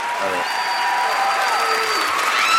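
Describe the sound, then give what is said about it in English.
An audience at a comedy show in San Francisco claps steadily throughout, a dense, loud wash of applause with no breaks. A few high, sustained whistle-like tones and scattered crowd voices rise over it. “Thank you for clapping for what my parents are ashamed of.”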